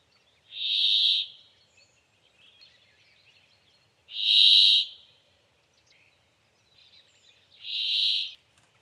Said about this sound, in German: Für die Stimme des Bergfinken ist ein langgezogener Quäklaut charakteristisch, welcher dem Vogel auch den Namen Quäcker verschafft hat.